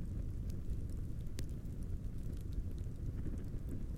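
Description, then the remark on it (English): A campfire, with a few logs thrown in, crackles with a steady low roar, broken by scattered sharp pops and snaps at irregular intervals. No voices are heard. “I like to sit by the flames before bed. I throw a few logs into the campfire.”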